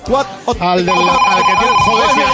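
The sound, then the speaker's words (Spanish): A telephone rings with a steady, high electronic tone that starts partway in and holds to the end, while a voice keeps talking underneath it, as the phone lines are opened for callers. “1 millón de euros, pero aquí somos tan generosos que vamos a abrir los teléfonos como si no cortara.”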